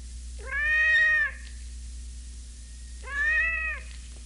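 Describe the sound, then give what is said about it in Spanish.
An enraged cat, its vocalizations evoked by brain stimulation, lets out two drawn-out, harsh yowls about two seconds apart, loud, over a steady low background hum. “Aquí estamos estimulando como un gato furioso.”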